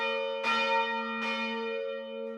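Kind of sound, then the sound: signal or alarm, bell ringing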